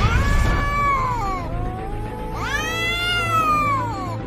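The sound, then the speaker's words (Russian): An actor in a scene rehearsal imitates an angry cat demanding its milk, with two long, strained meows, the first sliding downward and the second rising then falling in a wavering, nasal yowl, over a steady low hum. “И так подойти, мяу-мяу, и сказать ему ближе.”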